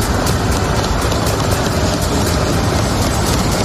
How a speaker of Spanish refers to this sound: Este es el sonido que desde hace unos días oye Maxim, el sonido de los carros de combate del ejército ucraniano, también escucha las bombas de los rusos.